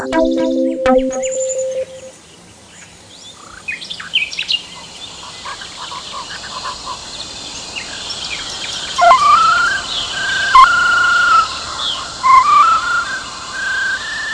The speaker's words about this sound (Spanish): La cigarra. Guardan silencio los sapos. Guardan silencio las ranas. Guarda silencio el verano cuando canta la cigarra.